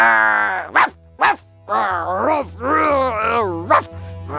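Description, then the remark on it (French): A voice imitates an angry dog, with drawn-out snarling growls broken by a few short, sharp barks. The performance is loud, with a low steady hum beneath. “Mauvaise humeur, pas content, énervé, méchant, méchant chien.”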